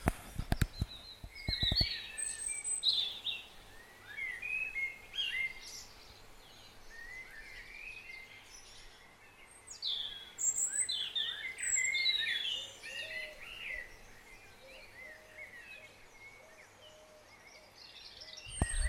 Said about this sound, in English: But the dawn chorus this morning for 5:30 in February still is wonderful. So I'll open the door here and step outside onto the balcony. And let you, it's been raining. Let you have a listen.